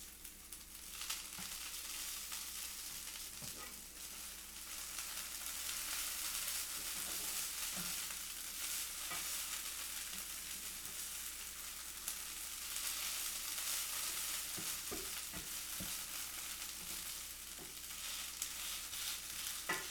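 A cat claws at a cardboard box in a steady, rough scratching that lasts throughout, a dry hiss of noise broken by occasional sharper scrapes and taps. No one speaks.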